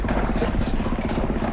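A pilot boat's engine drones steadily at a low pitch as the vessel comes up the river, a continuous throbbing hum that stays fairly loud and even throughout, with no voices over it.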